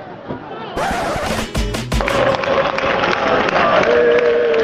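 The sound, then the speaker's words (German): A football stadium crowd at a Fuenlabrada match against Málaga in the Madrid area, with Málaga away supporters, roars and cheers in a loud, dense wall of noise, with a few heavy thuds early on and sustained chanting voices rising through the rest. “Hitzige Stimmung, aber auch guter Auswärtssupport von Malaga.”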